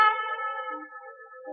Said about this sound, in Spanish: ¡Esta piedra es muy pesada! ¡Escuchad el eco!